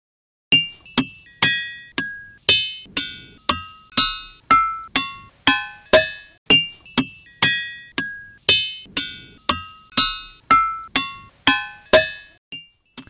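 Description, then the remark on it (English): Ringing rocks struck with a hammer, about two sharp clinks per second, each a bright bell-like tone at shifting pitches that quickly fades, with no talking. “And so in this case, the applied tension is whacking the rock with a hammer.”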